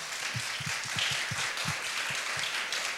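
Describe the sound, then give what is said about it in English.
A crowd applauds steadily, many hands clapping at once in a dense, continuous patter with a few sharper claps standing out, no voices over it. “So with that being said, man, I want us to just give a round of applause”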